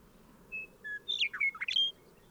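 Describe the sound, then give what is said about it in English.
A bird sings a short phrase: two clear, steady whistled notes, then a quick run of bright, rising and falling chirps. No voices, just a soft background hiss. “In the background, I can hear Bird 3.”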